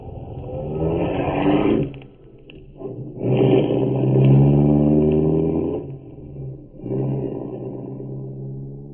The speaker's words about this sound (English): Frank Christensen says goodnight, gets into his own car, and drives away